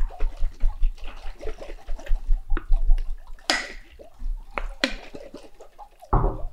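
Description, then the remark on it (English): Liquid and powder slosh and splash inside a closed mason jar being shaken, with irregular churning bursts and a few sharper, louder jolts, and no talking. “I just poured the powder in. Wait, I feel like this has to be ready. Yeah. I'm going to shake this.”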